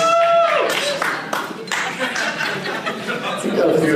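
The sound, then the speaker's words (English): An audience claps in a dense, steady patter for a few seconds, mixed with crowd murmur and a few chuckles, with a brief tone at the start. “Yeah, let's also give a round of applause to Sunshine.”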